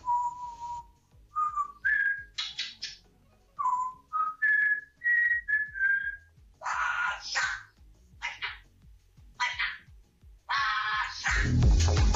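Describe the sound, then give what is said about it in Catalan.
A parrot named Iaco whistles the FC Barcelona (Barça) anthem in clear, bright notes that step upward in short phrases, broken up by raspy, squawking bursts and ending in a harsh noisy rush. “Sobretot perquè no sé si sabeu que hi ha lloros que canten l'himne del Barça, com el Iaco, que és el nostre protagonista.”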